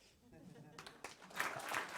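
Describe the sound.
Audience applause for the Open Gestures project team after their presentation swells from a quiet start into a dense, sustained patter of many hands clapping, growing louder over about two seconds, with some voices mixed in.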